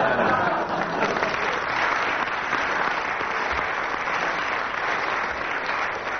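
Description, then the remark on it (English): A sustained, spontaneous burst of applause from a live audience, a dense, steady clatter of many hands clapping at once, fairly loud, holding at an even level for several seconds without any voices on top. “And with that spontaneous burst of applause from the audience”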